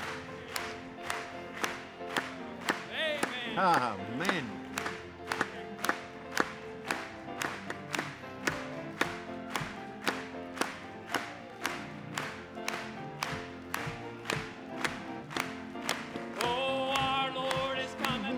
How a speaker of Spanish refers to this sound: Vamos a aplaudirle.